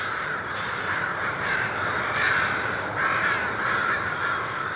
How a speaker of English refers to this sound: Imagine the ruckus when the first few thousand crows leave in the morning, about an hour before sunrise.